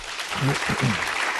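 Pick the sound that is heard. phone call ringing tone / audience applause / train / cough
audience applause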